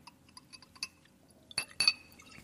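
A quiet, steady trickle of a spirit, one made from wine, poured from a bottle into a glass, with light taps early on and two sharper ringing glass clinks near the end, with no talking.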